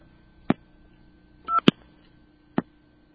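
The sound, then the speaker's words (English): Telephone line dialing 682 into an old Kellogg step-by-step switching exchange: three sharp, well-spaced mechanical clicks and a short tonal burst over a faint, steady line hum, with no one talking. “Now, I'm going to dial 682, and that's going to cut me into a Kellogg step switch.”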